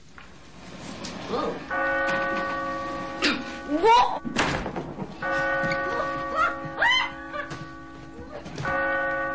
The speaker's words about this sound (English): holding the bell rope. The bell.